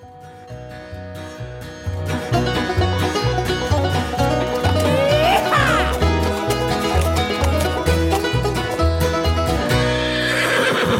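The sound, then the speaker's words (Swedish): A horse whinnies loudly partway through over a bouncy musical jingle, while a steady clip-clop of hooves keeps a brisk trotting rhythm throughout. “Hem till gården har vi kallat den här featuren, och det beror ju på att vi bor på våra hästgårdar”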